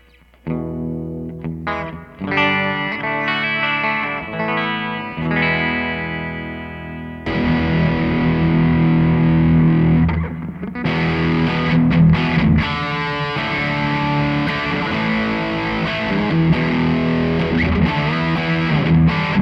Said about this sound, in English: Great overdrive, great distortion, playing through a PV Classic 50 and a Strat. First we'll do a Marshall type of tone.